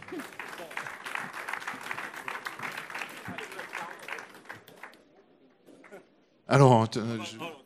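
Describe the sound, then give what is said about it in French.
An audience applauds prize winners at a prize presentation in a steady, dense wash of clapping for about five seconds, then it thins and fades before a loud voice begins speaking. “Merci, vous pouvez tous les applaudir déjà.”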